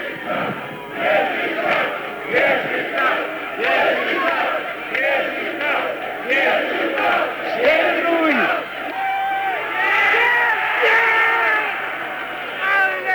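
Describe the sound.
Football fans at a Wieżyca match chant and cheer continuously, a dense wall of many voices with rhythmic, rising and falling shouts that never lets up for the whole stretch.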